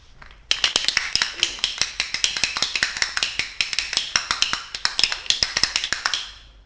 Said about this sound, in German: Im Delfinarium klatschen die Leute.